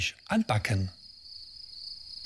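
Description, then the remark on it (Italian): A cricket's continuous high-pitched trill rings steadily, starting under a brief burst of speech at the start and then carrying on alone at a moderate level until the end. “Sì, facciamo come il grillo.”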